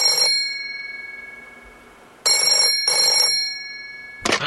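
A loud telephone bell rings in short metallic bursts, two quick rings following an earlier one, with a lingering tone between them and a sharp clunk at the end; a phone call coming in at the offices of the Kelly Group Incorporated.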